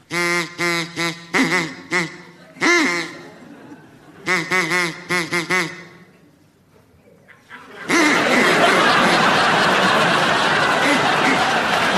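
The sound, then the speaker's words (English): A duck quacks in several quick, nasal bursts, a pause, then another run of quacks, before a burst of applause and laughter from an audience takes over. “So, would you be good enough to make your duck quack now, please,”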